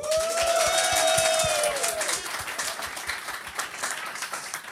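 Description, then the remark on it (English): A studio audience applauds steadily for a few seconds to vote for who lost the most points, a dense patter of many hands, with a held whistle or whooping cheer riding over the first half before the clapping carries on alone. “Please applaud for who you feel lost the most points.”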